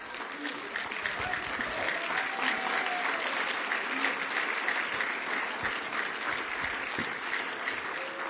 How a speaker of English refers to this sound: Oh, give him a hand clap, friends.